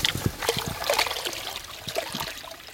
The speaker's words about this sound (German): einen Eimer voller junger Westerwaldforellen ins Wasser zu setzen